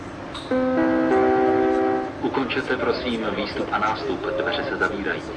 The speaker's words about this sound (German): Diese Stimme ist Millionen von Menschen bekannt. Die aufgesprochene Ansage, die die ein- und aussteigenden Fahrgäste vor den schließenden Türen warnt, gehört praktisch seit Jahren zum Inventar der Prager Metro.